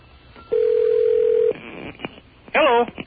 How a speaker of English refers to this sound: We have a line to Milwaukee here. There's the telephone ringing right there.